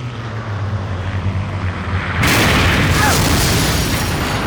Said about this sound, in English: That was a passenger plane.